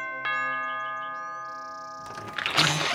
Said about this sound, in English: Jen walked up the steps to his house and begrudgingly rang the doorbell.